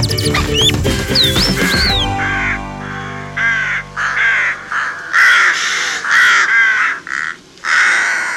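Harsh, raspy caws from a corvid repeat in a steady series of short bursts, loud, following a brief opening of chirpy whistles and tones.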